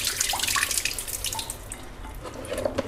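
Water pours steadily over bui (monkey bread fruit, the fruit of the baobab tree) in a container to soak it, a continuous splashing and trickling with small droplet plinks that runs the whole length without any voices.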